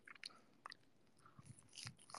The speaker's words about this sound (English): The chewing is hypnotic. I can't believe you guys can hear me chewing.